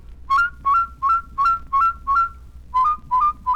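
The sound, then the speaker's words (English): A clear mouth whistle, made with the tip of the tongue working fast, flips quickly between two pitches in a steady series of about nine short double notes, evenly spaced with one brief pause near the end. No talking. “Now practice flipping them like this.”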